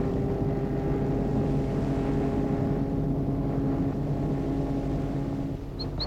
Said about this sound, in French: la voiture file jusqu'au fond vers la maison. Elle suit une route de gravier, des deux côtés il y a des arbres centenaires. La voiture va s'arrêter devant le perron.